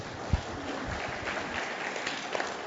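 A group applauds, a steady wash of many hands clapping at once, with a few sharper individual claps standing out, holding at an even level throughout with no voices.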